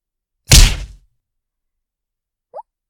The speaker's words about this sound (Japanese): どうしたの？顔面にヒットしちゃったよ。もしかして私のパンチ見えなかった？